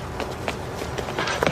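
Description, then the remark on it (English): A quick series of footsteps, about six steps in a steady walking rhythm, each a crisp tap over a faint background hiss with no one speaking. “The Firesign Theater's Nick Danger will be back tomorrow when the script says, footsteps. Door opens. Two shots.”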